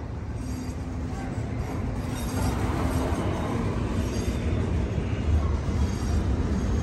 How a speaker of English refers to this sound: Oh, the train is coming backwards, both of them.